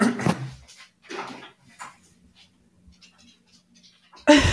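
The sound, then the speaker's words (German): A door is opened to let a dog inside: a few soft bumps and shuffling noises, a quiet stretch with faint low hum, then a sudden louder clatter at the end. “Muss ich mal gerade den Hund reinlassen, Moment.”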